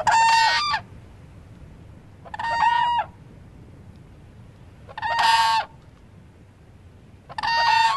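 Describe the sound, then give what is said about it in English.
Four loud, brassy whooping crane alarm calls ring out at roughly even intervals, each a short harsh whoop, with only a low background rumble between them and no talking. “That's the whoop sound of the whooping crane”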